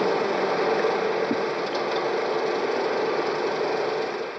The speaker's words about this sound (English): Carl Krohn switched on the 35-millimeter projector for the last time. About 175 cars pointed at the crumbling white screen.